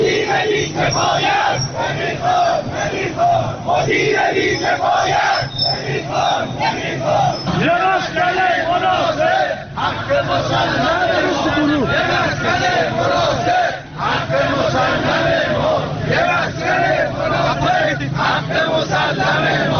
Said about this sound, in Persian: به صدای شعار تجمع کنندگان که از سوی یکی از شنوندگان در اختیار ما قرار داده شده است گوش می‌کنیم.